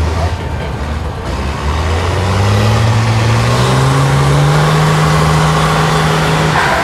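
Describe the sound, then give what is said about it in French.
Heavy diesel engines of a truck and an excavator drone steadily while a very large sling is hooked to the rear of the truck and the excavator's arm; one engine rises in pitch as it revs up and then holds a loud, sustained roar, with a low rumble underneath throughout. “Alors là, on est en train d'accrocher une élingue très très grosse à l'arrière du camion et au bras de la pelle.”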